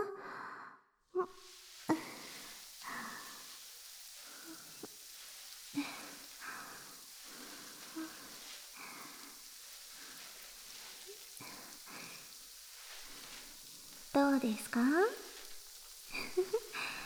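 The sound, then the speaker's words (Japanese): A steady soft crackling hiss of carbonated foam as someone's head and hair are washed, with faint breaths and brief quiet speech, then a few louder squishy bursts near the end. “肌に染み込むような炭酸の感触、しっかり味わっていますか？”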